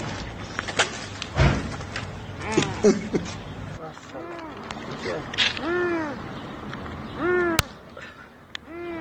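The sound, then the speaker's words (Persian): A distressed cat, its neck stuck in a hole, meows repeatedly in drawn-out, rising-and-falling cries as a family in Lorestan tries to rescue it; people talk and clatter and bumps sound in the background. “در اینجا هم تصویری می‌بینید از تلاش یک خانواده در لرستان برای نجات جان یک گربه که گرفتار شده و گردنش در حفره‌ای گیر کرده.”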